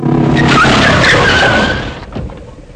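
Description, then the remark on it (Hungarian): A car brakes hard, its tires letting out a loud, rising squeal over a roaring rush of road noise for about two seconds before quickly fading away. “Fékez!”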